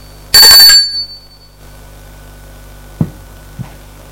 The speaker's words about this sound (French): sonne à la porte.